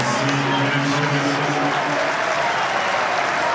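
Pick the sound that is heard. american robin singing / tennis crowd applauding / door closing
tennis crowd applauding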